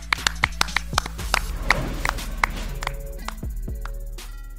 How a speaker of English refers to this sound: Peace out. Clap it up, homies.